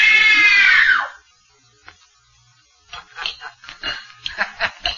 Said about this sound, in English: Good. Now scream. Scream! Scream for your life!